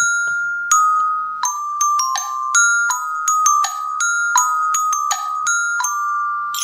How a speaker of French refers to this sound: Vous l'auriez compris, on adore les petits rituels, les petites traditions dans notre émission. C'est tout à fait. Et la petite cloche en fait partie.